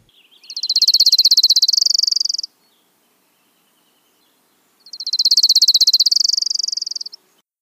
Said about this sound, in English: Oh, what a just... I know, that lovely trill, isn't it? Lovely trill, the Orange Crown Warbler. It has that sassy little inflection, where you get that.